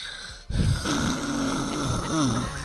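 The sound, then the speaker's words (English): A loud, rasping snore starts abruptly after a brief quiet moment and drones on steadily, with a rough, throaty rattle that rises and falls. “That snoring got you all jacked up because you done picked up all this weight, heavy ass chest.”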